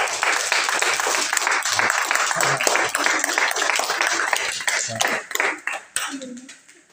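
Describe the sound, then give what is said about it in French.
A crowd applauds with dense, steady clapping that holds strong for about five seconds, then thins into scattered claps and fades out near the end. “On les applaudir. Bravo, bravo.”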